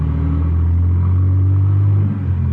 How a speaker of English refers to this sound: We went across the street, got in the car, and took off. Fog was so thick you couldn't see 20 feet in any direction.